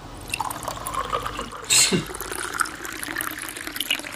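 Rolling Rock beer pours steadily into a glass, a bubbly, gurgling trickle with soft fizz throughout and one brief louder splash partway through; no one speaks.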